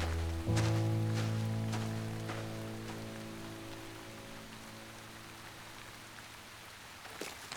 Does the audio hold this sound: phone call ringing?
no